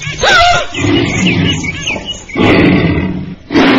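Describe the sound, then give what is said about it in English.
A tiger roars loudly in a long rumbling growl followed by two more snarling bursts, with faint higher chirps mixed into the first roar. “What's that? Ah, a tiger.”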